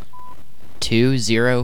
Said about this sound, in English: At the tone, please state your city. Washington, D.C. At the tone, please provide your state. Washington, D.C. At the tone, please state your zip code.